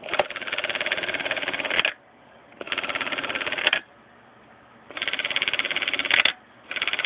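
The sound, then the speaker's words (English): A wind-up camera's shutter firing repeatedly after the camera is wound and its trigger pressed: three loud, buzzing clockwork whirs of about two seconds each, separated by short pauses, with sharp little clicks as the bursts end. No one speaks. “Now let's see if you can listen to the shutter.”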